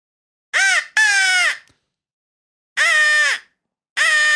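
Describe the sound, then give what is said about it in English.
A crow whistle blown close up, giving four loud, raspy caws in uneven bursts, two quick ones then two more after a pause, closely imitating a real crow's call. “And like, we have this here crow whistle.”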